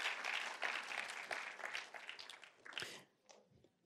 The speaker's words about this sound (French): Et est-ce que ce matin, on peut applaudir notre Dieu qui s'est offert pour nous et qui connaît toutes choses dans nos vies ?